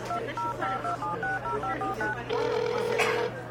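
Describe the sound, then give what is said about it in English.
A quick run of about eight or nine phone keypad dialing tones, short dual-pitched beeps in a steady rhythm, then one longer steady tone, over a low constant hum. “Wait, where's my phone?”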